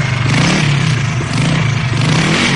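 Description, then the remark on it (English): A motorbike engine revs loudly, its throaty drone rising and falling steadily for a few seconds with a rattling, clattery edge and no voices. “But this year, he's traded in his reindeer for a motorbike.”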